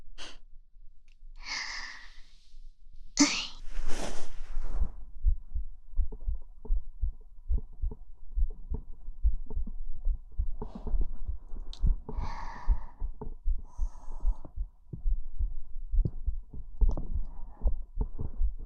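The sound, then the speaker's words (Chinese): A girl's muffled heartbeat thumps steadily and evenly, preceded by a couple of soft breathy sighs, with faint rustling over the low, rhythmic pulses. “这样听女孩子的心跳，还是第一次吧。”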